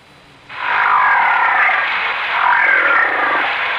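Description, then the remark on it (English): A whale call begins after a brief quiet moment: a loud, sustained, rasping drone in the mid-to-high range that holds steady for about three seconds, dipping slightly midway before swelling again. “Because each sound was made by a whale.”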